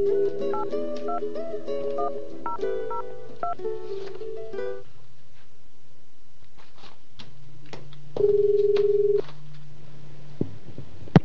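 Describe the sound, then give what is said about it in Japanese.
A rapid series of telephone keypad tones dials Tanba City Hall in Japan from a radio studio for a phone interview, followed by a steady low hum and then a single ringback tone, heard clearly with no one speaking. “ちょっと失礼があってはいけないのでかけてみます。”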